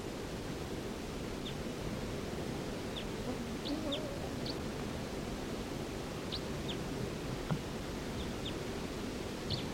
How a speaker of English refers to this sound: Here's bird 316 again. Responding to 305.